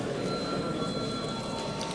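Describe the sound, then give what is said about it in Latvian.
A parliamentary voting bell rings continuously for the full two seconds before a vote on a bill in its second reading, a bright buzzing ring with sustained high tones over a dense, even rattle, with no voices. “Lūdzu zvanu.”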